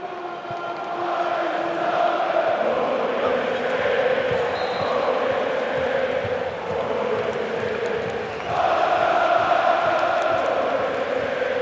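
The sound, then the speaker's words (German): A huge crowd of SGE football fans chants together in unison at last night's top match, chanting "Deutscher Meister wird nur die SGE", a dense, droning wall of voices that holds steady and loud throughout, then swells even louder toward the end. “Aber wenn wir mal reinhören, was die Fans skandiert haben beim Topspiel gestern Abend.”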